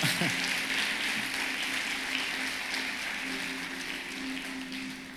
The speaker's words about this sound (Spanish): Yo creo que puedes darle un aplauso mejor a los chicos, ¿verdad?